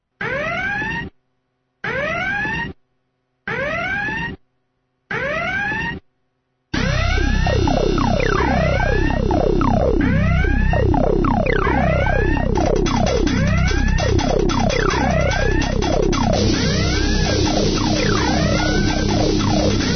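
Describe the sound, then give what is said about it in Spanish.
Four short siren blasts with brief pauses between them, then a loud, unbroken wall of several wailing sirens sweeping up and down over each other, with no voices. “Y una semana más nos llega ese sonido de las sirenas, esas sirenas que nos alertan de seguridad.”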